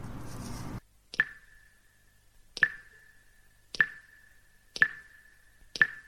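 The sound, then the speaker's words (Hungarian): A short burst of rushing summer rain cuts off, leaving five single raindrops plopping one by one at slow, slightly uneven intervals, each a clear, ringing drip in the quiet. “A nyári záporok rövid életűek. Nagy locspoccsal járnak, de hamar tovább állnak.”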